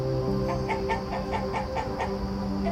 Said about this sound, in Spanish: Visualiza que se acercan a ti varias gallinas mirando el suelo en busca de cualquier cosa que les resulte nutritiva.